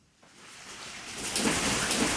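Frenetic splashing from hundreds of hungry crocodiles, about a foot long, feeding at lunchtime at Hartley's crocodile farm in Queensland, a dense, hissing wash of water churning that builds from quiet to loud and stays busy and continuous, with no voices.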